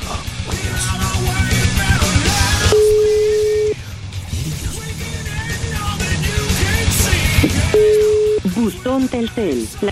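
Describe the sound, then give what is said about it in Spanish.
Two steady ringback tones sound on a call to a Telcel mobile phone, each about a second long, separated by a pause, while background chatter and noise continue underneath with no one picking up. “Ya no contesta. Este es el teléfono del celular, ¿verdad?”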